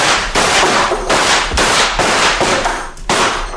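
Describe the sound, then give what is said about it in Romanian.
A volley of gunfire fired on command: a rapid run of loud, sharp cracks, about seven or eight in quick succession, each bursting with harsh noise that rolls into the next. No voices are heard. “La comanda mea, descărca o salvă. Atențiune. Foc!”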